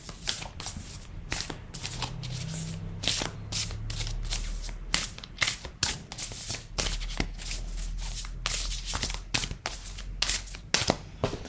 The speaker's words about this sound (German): So, okay, passt auf. Ich hole die Karten jetzt raus, mische sie.